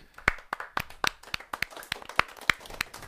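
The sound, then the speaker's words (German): A short burst of hand clapping for the show's hosts, about a dozen sharp claps in a steady, fairly quick rhythm, with no voices over it. “Applaus für uns.”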